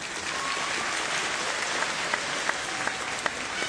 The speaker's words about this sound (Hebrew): באמת מגיע להם מחיאות כפיים.